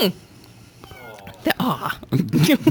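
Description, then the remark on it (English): A cat lets out a drawn-out meow from somewhere in the background, fairly soft, and then people start talking over the room noise. “Yes, and from the background we hear meow.”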